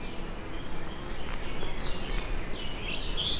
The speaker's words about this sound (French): La moyenne montagne, ici, s'est remplie d'oiseaux, d'arbres, et de feuillage. Le ciel est nuageux, la chaleur intense.